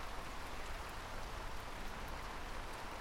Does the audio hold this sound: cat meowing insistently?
no